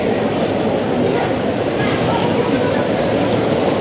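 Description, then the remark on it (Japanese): Steady, continuous rumble and clatter of suitcase wheels rolling across a hard station floor, fairly loud, as many tourists pull wheeled luggage near the Hachijo East entrance, mixed with the indistinct murmur of a busy crowd. “あ、こっちはやっぱり観光客多いぞカートを転がしてる人たちがたくさんいます。”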